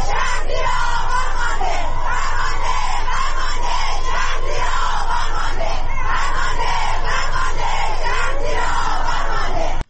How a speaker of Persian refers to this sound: کاربران شبکه‌های اجتماعی در ایران در ساعت‌های اخیر به رغم دشواری‌های فراوان در اینترنت، ویدیوهایی را از اعتراض‌ها و شعارهای سرداده شده از سوی معترضان انتشار دادند.